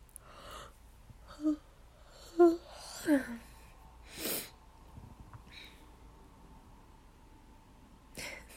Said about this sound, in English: Sorry for making you yawn too. I'm really sleepy now.